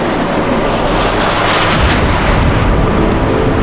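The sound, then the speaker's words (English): Loud, sustained thunder rolls through a stormy sky over Anchorage amid wind, rain and lightning, a deep continuous rumble layered with a rushing, wind-like hiss that never lets up, with no voices present. “In the stormy skies over Anchorage, Green Lantern willed himself forward against the wind, the emerald light of his ring shielding him from rain and lightning”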